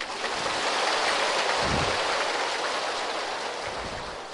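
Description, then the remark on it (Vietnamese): The audience of the 44th retreat course applauds steadily, a dense crackling wash of many clapping hands that holds at an even loudness throughout with no voices over it. “Quý vị thưởng tràng pháo tay đi.”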